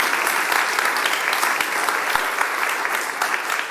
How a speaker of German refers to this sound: Vielen Dank euch. Das ist euer Applaus.